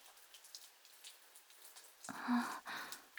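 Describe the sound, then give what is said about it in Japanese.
Steady rain falls with a soft, even hiss, then swells into a louder patter for the last second, with a brief faint low voice sound in the middle. “でもこの降り方だとなかなか止まないと思うわよ。”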